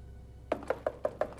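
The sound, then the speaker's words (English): Five quick, evenly spaced firm knocks on a door, after a brief moment of quiet room tone. No voices accompany them. “It's me, Wiley. Open the door.”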